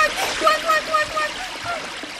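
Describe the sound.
Water splashes and churns steadily in a river with a strong current, as a rabbit throws a small branch in and a mother duck throws herself into the river to rescue her duckling. Faint tonal, voice-like sounds waver over the continuous rushing wash.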